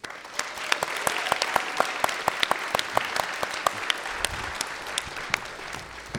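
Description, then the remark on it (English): An audience at a stage event applauds steadily as a guest is invited onto the stage, a dense wash of many hands clapping with sharper individual claps popping out, and a low hushed murmur of the crowd rising faintly underneath toward the end. “I like that hushed wow of the crowd.”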